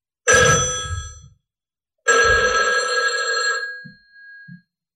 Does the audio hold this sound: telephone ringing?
yes